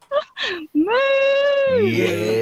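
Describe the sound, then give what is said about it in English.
A person's voice imitates a cow, giving a long, loud drawn-out moo that drops lower and rougher at the end, after a couple of short vocal sounds. “Are you happy to give us your biggest, loudest moo?”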